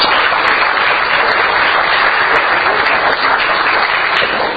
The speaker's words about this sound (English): So our Rotarians of the head table on my left, please give them a round of applause.